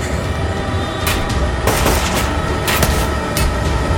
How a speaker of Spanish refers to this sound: Alrededor de nosotros se adivinaba mucha gente remolinándose y escuché los primeros disparos, buscando abatirnos.